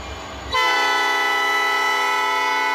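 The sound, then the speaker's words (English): A train rumbles in Dalton, a south suburban town, then a loud, sustained horn blasts in and holds steady, its bright harmonic tones dominating over the low rolling rail noise. “Usually the trains are the loudest noise in South Suburban Dalton.”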